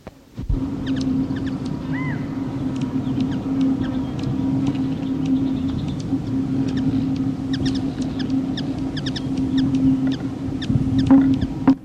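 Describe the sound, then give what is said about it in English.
Short, sharp black-chinned hummingbird (Archilochus alexandri) chips repeat irregularly throughout, high and ticking, over a continuous low droning whistle from its wings that holds steady, recorded at Encinal Canyon, Malibu, Los Angeles County, California, on 22 April. “Comparison of chips of Calypti anna and Archilochus alexandri and wing whistle of the latter, recorded at Encinal Canyon, Malibu, Los Angeles County, California, 22 April”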